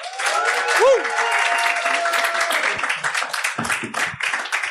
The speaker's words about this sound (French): Veuillez faire un tonnerre d'applaudissements pour l'excellent PE.